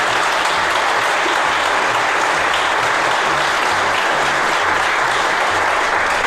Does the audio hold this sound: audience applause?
yes